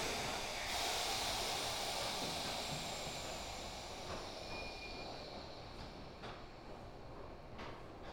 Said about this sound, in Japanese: この電車は福岡天神行き急行です。